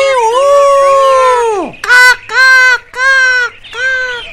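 A rooster crows loudly: one long, drawn-out call that slides downward, then four short, strained bursts in quick succession, with no talking.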